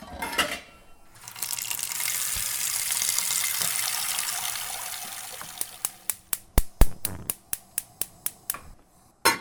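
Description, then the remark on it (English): A tap runs steadily for a few seconds, water pouring into a pot to be boiled for pasta, then stops and gives way to a quick series of sharp clicks and clinks. No one speaks. “while we wait for this water to boil, you know that I am trying to approximate the study that you did, so I guess you could surmise what else I have here on the counter.”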